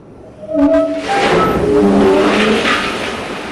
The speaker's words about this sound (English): That's what 120 tons of coal sounds like when you dump it into a railroad car. Not far from the place where Sitting Bull defeated Custer, Cloud Peak Energy is mining coal and transporting it by rail.